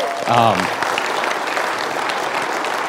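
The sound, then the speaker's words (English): A crowd breaks into steady, sustained applause for a youth group of underclassmen who have just sung and played, a dense wash of clapping that holds evenly throughout, with a brief voice or cheer rising over it at the very start. “So if you would, please give them another round of applause.”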